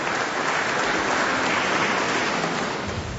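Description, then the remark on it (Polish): A steady wash of applause welcoming guests from the Adam Chodyński city and field guides club at PTTK in Kalisz, dense and continuous clapping at an even loudness throughout the few seconds, with no voices on top. “No i brawa może, żeby się lepiej poczuli tutaj pośród nas.”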